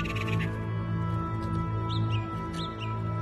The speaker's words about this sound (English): That, my dear Hoenn, is a thrush. Take it as a sign. A good omen.